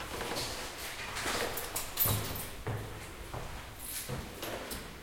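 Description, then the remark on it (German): A key from a villa scrapes and jiggles in the lock of a second door, with a few sharp metallic clicks and a louder clunk near the middle as the lock turns and the door unlocks. It's fairly quiet, with no talking. “Ach, der Villa-Schlüssel passt hier auch.”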